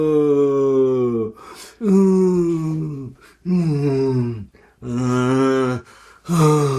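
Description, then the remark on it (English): A person imitating a banana's unhappy breathing lets out four long, exaggerated groaning sighs, each pitch sliding downward, separated by quick noisy inhales; fairly loud and theatrical. “So if you start adding noise to this as you're breathing, for me, this banana sounds like it's just sighing, it's unhappy.”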